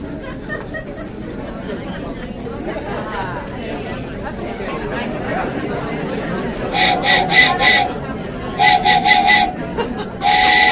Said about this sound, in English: Sorry, train.